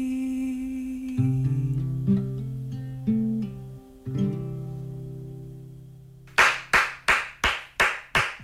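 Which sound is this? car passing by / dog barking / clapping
clapping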